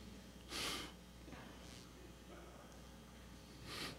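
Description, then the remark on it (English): A small, sick dog coughs in sharp, breathy bursts: one loud hack near the start, a few softer snorting coughs in between, and another loud hack at the end. “We have a little dog. He's sick. He's got a cough.”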